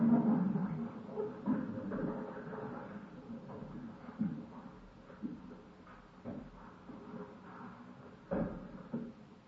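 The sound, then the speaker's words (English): Soft, continuous rustling of many Bible pages as an audience turns to John, chapter one, a low shuffling texture with scattered faint clicks and thumps, no talking. “John, the first chapter, and I'll wait till I hear the end of the rustling, and then we'll look. In my book, it's page 97.”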